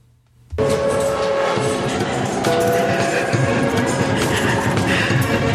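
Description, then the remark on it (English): After a brief quiet moment, loud metal clanging bursts in abruptly and keeps going, a dense grinding, rattling din with sharp clanks and steady ringing metallic tones. “At the metal clanging noises, everybody looks at a wooden door at the far end of the room”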